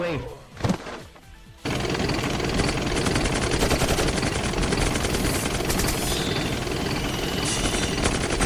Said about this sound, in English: The chopper's firing at us. Fire back.